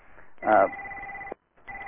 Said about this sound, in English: Sorry about that line ringing.